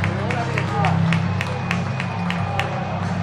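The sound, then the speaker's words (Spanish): Sparse, scattered applause: about ten separate handclaps at an uneven, unhurried pace, sharp and moderately loud over a steady low crowd murmur, with no sustained ovation. “Ahora sí tienes aplausos aquí, ¿eh?”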